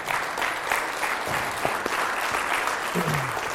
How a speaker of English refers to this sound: Let's clap to the Lord for his goodness today.